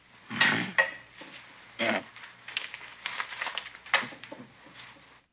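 Keys emptied from someone's pockets are set down on a hard tabletop, giving a few metallic clinks and rattles spread over several seconds, with some softer shuffling between them.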